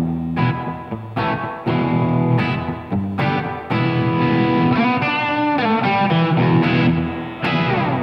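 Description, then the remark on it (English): An electric guitar played through a spring reverb pedal, loud chords and riffs separated by brief pauses, each phrase ringing into a washy, splashy tail. No voices. “but this is a spring reverb.”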